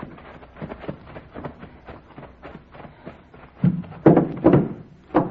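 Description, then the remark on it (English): A barn door hooked on the inside, with rotten wood, is rattled and shaken in bursts, with low wooden knocks and clatters that grow louder toward the end, several sharp jolts standing out over a softer, irregular rattling. “Barn door's hooked on the inside.”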